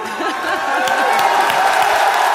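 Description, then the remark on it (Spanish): A large crowd claps and cheers loudly and continuously for footballer Karim Benzema at the Ballon d'Or ceremony, with scattered shouts and whoops rising over a dense wash of applause for the whole stretch. “Y la gente le jalea.”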